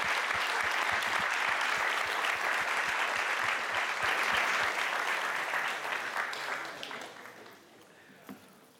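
A crowd claps together in a dense, steady burst of applause that holds strong for several seconds, then gradually thins and fades away toward the end.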